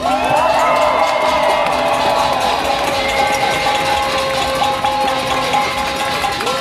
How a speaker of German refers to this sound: Das hier, das ist euer Applaus.